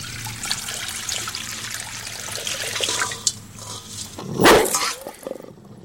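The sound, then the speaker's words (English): Tap water pours into a dog bowl, a steady hiss and trickle that swells into a louder splashing burst near the end before cutting off. “It's just tap water pouring his bowl.”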